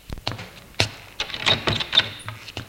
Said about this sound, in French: Madame Roland ouvre la porte.